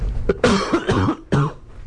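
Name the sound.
cough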